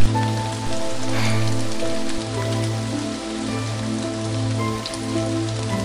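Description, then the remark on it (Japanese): Steady rain patters on a hard surface, a continuous hiss of drops, with a low pulsing tonal drone sustained underneath and no voices. “雨がこれほどまでに冷たいものだと感じたことはなかった。”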